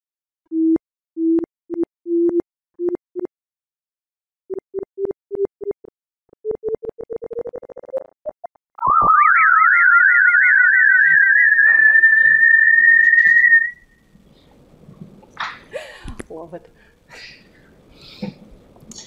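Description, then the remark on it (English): A sonified signal of a black hole forming: short tonal beeps quicken and climb in pitch, then break into a loud warbling whistle that settles into a steady, high kettle-like tone for several seconds before fading into scattered noise. “sounds like a kettle, doesn't it?”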